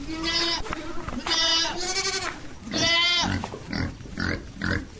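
Free-roaming goats in the Bouirab neighbourhood bleat repeatedly, several loud, quavering calls in quick succession, followed by softer, shorter bleats over a faint outdoor background.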